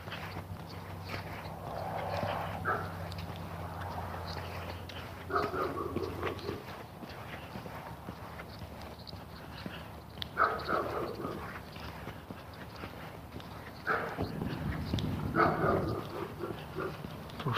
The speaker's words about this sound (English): That's not the lab, it's a dog off in the neighborhood there somewhere.